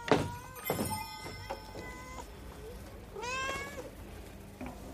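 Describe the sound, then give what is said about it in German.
A person imitates a cat meowing: a few short, plaintive meows mixed with soft knocking thumps, then a longer, drawn-out meow that rises and falls, with no talking. “Du hast schon mal gebellt. Warum sollst du nicht als Abwechslung einmal miauen?”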